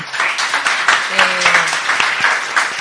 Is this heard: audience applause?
yes